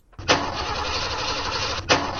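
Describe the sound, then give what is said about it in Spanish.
A car engine cranks with a steady, loud grinding whir that never catches, then a second attempt starts abruptly near the end, still failing to start. No one speaks. “Porque esto no arranca.”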